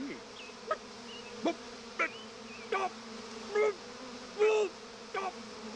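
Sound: bees buzzing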